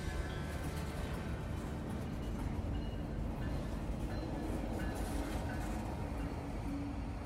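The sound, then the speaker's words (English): A freight train's boxcar jerks and rumbles as it gets moving at the catch-out dock in Amarillo, Texas, a steady heavy low roar with faint metallic whines and creaks running through it, and no one speaking. “He says, get up on this boxcar with me and check it out. So he toted me up there, and next thing I know, I hear and a jerk, like, what is that?”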